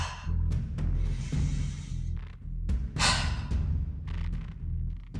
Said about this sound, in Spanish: Bien, ahora toma una respiración profunda y suelta fuerte.